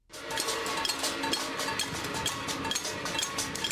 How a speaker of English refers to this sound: Protest by percussion. Icelanders demonstrate outside their parliament in distinctive fashion, banging pots and pans and even gongs. The din is a way of venting disgust.